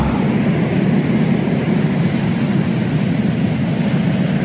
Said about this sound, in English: So just for a little taste of what you're going to experience, here is 10 seconds of relaxation by the ocean.